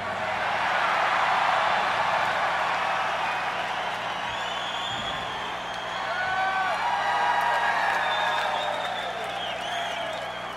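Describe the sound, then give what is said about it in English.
A large crowd roars and cheers without pause during 4th of July fireworks, with shrill whistles and whoops rising above the din, and a single low firework boom thuds briefly beneath the noise midway through. “There's fucking explosions going on right now, is that right?”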